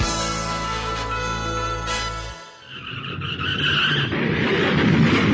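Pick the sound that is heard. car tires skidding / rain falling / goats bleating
car tires skidding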